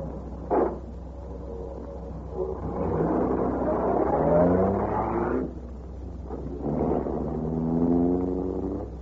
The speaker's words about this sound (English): Get back to the car fast and drive off.